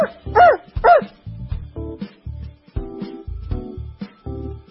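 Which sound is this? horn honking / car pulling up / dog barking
dog barking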